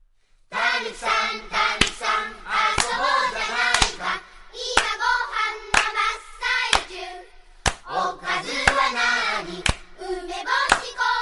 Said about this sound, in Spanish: incluso la podemos aplaudir, ¿vale? Venga. Vamos allá.